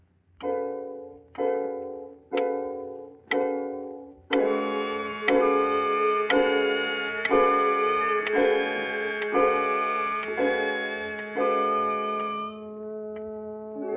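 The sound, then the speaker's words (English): A clock ticks steadily, about one resonant, ringing beat per second, roughly a dozen in all, clear with no voices, the tones blurring into a sustained hum partway through. “You continue to pace the room, glancing occasionally at the clock.”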